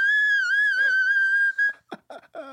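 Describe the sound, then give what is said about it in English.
A shrill, steady whistle-register note, sung loud for over a second, sounding like a whistling tea kettle, followed by a few short, choppy vocal bursts. “It's more of a tea kettle than a whistle tone. That's exactly what it sounds like.”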